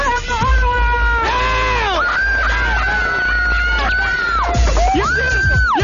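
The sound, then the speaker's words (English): A male caller screams loudly and continuously into a phone for several seconds, his strained, wavering yells rising and falling in pitch and sounding thin and band-limited like a phone line. “Anyway, you got to scream the thing.”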